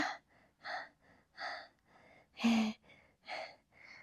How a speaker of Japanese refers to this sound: 息切れがすごい。